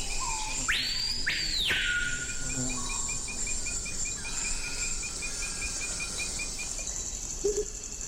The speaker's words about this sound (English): Let's head to the Amazon. So many birds. What are the sounds we're hearing? Now, that's the colorful cry of the surprisingly drab screaming peahaw.